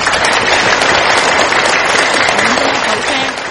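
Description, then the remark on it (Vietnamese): A crowd applauds steadily, a dense wash of many hands clapping at once, loud and sustained throughout before easing slightly at the end. “Là mình thấy hạnh phúc, đã cho tràng pháo tay cái đã này.”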